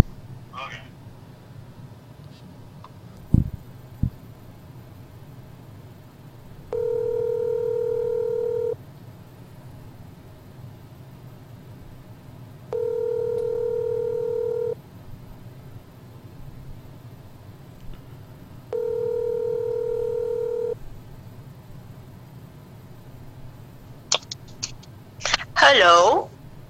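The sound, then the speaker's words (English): A telephone ringback tone purrs three times while a call is being placed, each steady two-second ring separated by long pauses, fairly loud and clear over a faint background hum, with a brief rustle near the end. “I'm gonna try to call John Papanito.”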